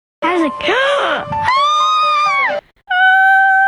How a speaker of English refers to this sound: insert the best scream I've ever heard.